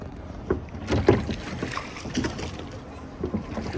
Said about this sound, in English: So now we're rowing a boat at the bottom of a lake. Unbelievably deep underground in a salt mine.